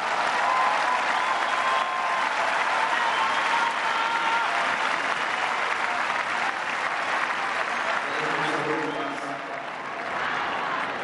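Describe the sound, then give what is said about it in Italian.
Sustained, dense applause from a huge outdoor crowd of about 300,000 welcoming the Pope in Ecatepec, a populous suburb of Mexico City, a steady roar of clapping with scattered cheers and voices, continuing at an even level for the full length. “Questo l'applauso dei 300.000 circa che hanno accolto ieri il Papa a Ecatepec, questo sobborgo popolosissimo di Città del Messico.”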